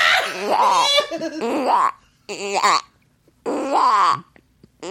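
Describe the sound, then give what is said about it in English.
A man's voice quacks like a duck in three raspy, nasal bursts with short gaps between them, each call wavering and buzzing in pitch. “That's my flawless duck call, bitch.”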